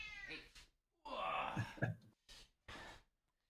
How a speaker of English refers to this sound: Yeah, you can hear from the cat a few times in the background. Yeah, you can just hear her meowing. Hey, how's it going, Midna? She's purring like crazy.